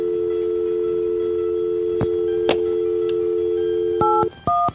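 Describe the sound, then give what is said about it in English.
A steady telephone dial tone hums with a couple of faint clicks, then two short, loud keypad dialing beeps sound near the end as a phone number is dialed, with no one talking. “Shit, I forgot to dial one.”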